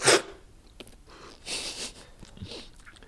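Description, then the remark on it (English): A voice imitates the loud, hissy slurp of a coffee taster quickly slurping coffee from a spoon during tasting: a sharp airy burst first, followed by a few softer slurping, sucking noises. No words are spoken. “He grabs one more spoon, scoops up a bit of coffee from the cup, and quickly slurps it down. Sometimes it's loud.”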